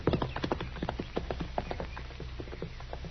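Horse hooves clip-clop in a steady walking rhythm, a quick string of sharp hollow knocks at moderate loudness, with no voices over them.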